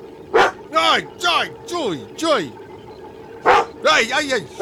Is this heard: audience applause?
no